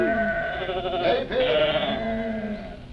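Several sheep in a field bleat over one another in a steady, wavering chorus, fairly loud, with overlapping calls filling the few seconds without pause.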